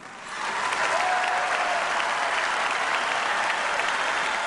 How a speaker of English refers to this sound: And down on the floor where I was, the crowd just leapt up to its feet and starts yelling, "Yes, we can," for about 2 minutes. Of course, that's the Obama refrain.